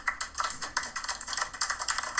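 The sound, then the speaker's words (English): Light applause: a quick patter of overlapping, crisp claps with a fairly steady, thin texture, moderately quiet and without any voices, played as a sound effect for a correct answer in a guessing game. “Light applause.”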